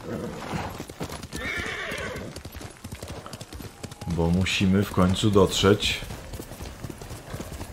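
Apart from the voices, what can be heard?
horse hooves clip-clopping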